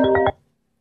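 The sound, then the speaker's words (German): A mobile phone ringtone sounds briefly, a bright electronic melody pulsing about three times before cutting off abruptly into silence. Nobody speaks. “Weil ja, wir kamen ja auch so auf die Idee, weil ich da Handy klingelt.”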